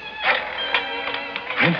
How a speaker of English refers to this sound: Oh, now, with my left hand, I'll just pick up this phone. I'll put it down and dial.